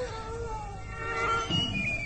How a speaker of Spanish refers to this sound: ¿Escucharon? ¿El aullido?